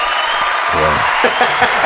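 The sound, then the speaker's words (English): A steady round of applause fills the whole clip, a dense crackle of clapping, with voices calling out and talking over it partway through. “That was the most undeserved round of applause ever in the history of this show.”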